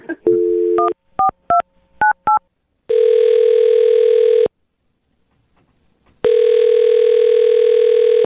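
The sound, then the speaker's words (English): A steady telephone dial tone as a radio show host dials a man's phone number, then a quick series of about six dialing beeps, each a short two-note tone, followed by two long ringback tones separated by a pause. No one speaks. “I'm going to dial his phone number right now, get him on the phone, and get your second date update.”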